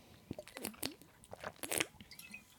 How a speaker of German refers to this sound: ich trinke mal einen Schluck Wasser, vielleicht hilft mir das.